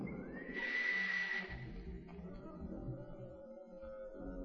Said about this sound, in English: And the door opens. Why, that's marvelous. You see, the sound of the whistle operates an electric lock.